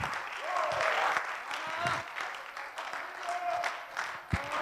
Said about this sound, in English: Let's clap our hands unto the Lord.